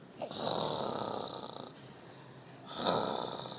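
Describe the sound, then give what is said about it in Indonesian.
A voice imitates a rabbit snoring as it sleeps under a tree: two long, raspy, breathy snores, the first drawn out for over a second, then a pause before a second loud snort-like snore, clear. “Karena dia capek lari, jadi mungkin dia ngorok gitu bang ya.”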